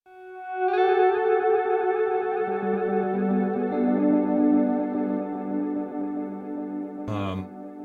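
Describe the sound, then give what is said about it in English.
An electric guitar rings out through a heavily effected pedal set to fairly high feedback, sustained chords smeared with swirling modulation and dense, repeating echoes, then a sharp strum near the end cuts through the wash. “And that's like pretty high feedback too.”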